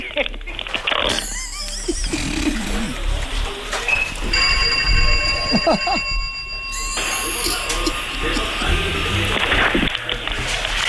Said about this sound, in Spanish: Y toque el timbre de la casa para ver si se llega a acoplar el timbre de la casa con el teléfono.